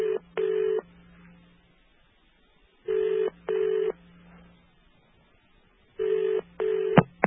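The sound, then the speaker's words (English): A British-style double ring tone, the London ring or St. Vincent Island ring on a digital system, made of two simultaneous tones at 400 and 450 hertz, repeats three times: two short buzzy bursts close together, then a pause of silence, at steady moderate volume with nobody talking. “The sound of a London Ring ringing, or actually St. Vincent Island on a digital.”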